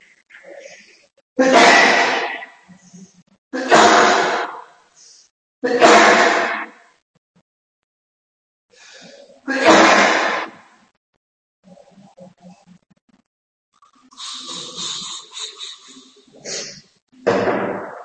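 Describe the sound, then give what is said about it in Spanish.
A run of about five loud, explosive sneezes, each a sharp breathy burst, spaced a few seconds apart, with quieter breathing and rustling sounds in the gaps. “Disculpa el estornudo, pero es que hace un frío aquí abajo terrible.”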